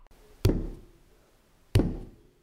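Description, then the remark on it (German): Two heavy, resonant knocks on a large wooden castle gate late at night by visitors from Burg Neuschafneck, spaced over a second apart, each booming with a low thud and a short echoing decay, with no voices. “Sie stehen vor dem Tor und klopfen a.”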